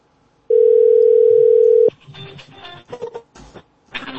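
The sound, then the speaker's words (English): A loud, steady telephone dialing tone as a phone call is placed holds one pitch for about a second and a half, then cuts off into a jumble of faint clicks and muffled line noise. “Let me I'll call you on the phone.”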